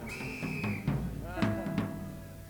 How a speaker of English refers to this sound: Is there more than one Acme Thunderer in the audience? Everybody that's got a whistle, blow it.